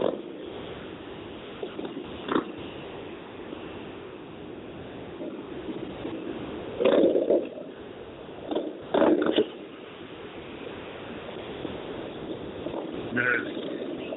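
A long procession of hundreds of motorcycles, a tribute to a police officer, rumbles past in a steady, continuous engine drone, with a couple of louder revving swells from individual bikes rising briefly above the crowd of engines.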